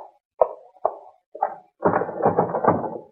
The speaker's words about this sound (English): That door's locked, huh? That won't hold us up for long.